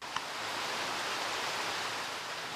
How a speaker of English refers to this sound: Heavy rainfall pours down on the densely forested slopes of Mount Kilimanjaro, Africa's highest mountain. Its impressive peak is veiled in haze. Torrents of water transform the steep, winding path up the mountain into a mudslide, carrying soil along